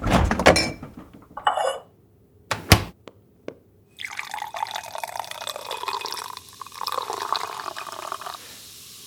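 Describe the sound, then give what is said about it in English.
A few knocks and a sharp click, then a steady hissing pour of homemade sparkling water into a glass that runs for several seconds with a bubbling, crackling texture. “Want to try some bubbly water?”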